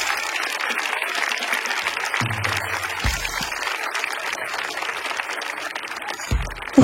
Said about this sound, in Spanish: ¡Oiga, caballero! ¡Aplauda todo, mierda! Un fuerte aplauso para el público que lo ha hecho excelente hoy día.